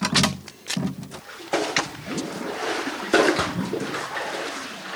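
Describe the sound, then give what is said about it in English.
Water sloshes and splashes in uneven bursts as a daughter draws it from a well into a jerry can, with knocks and scrapes of handling and faint background sounds. “Daughter Sara draws water from the well with a jerry can.”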